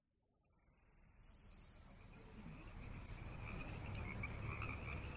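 A dense chorus of frogs croaking as the frogs leave, swelling from quiet to loud over a few seconds into a steady, overlapping racket with no talking.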